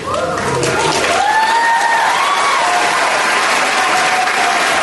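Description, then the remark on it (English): A large indoor audience at a national spelling bee claps loudly and steadily, a dense wash of applause with scattered cheers and whoops rising above it throughout. “Yeah, clap.”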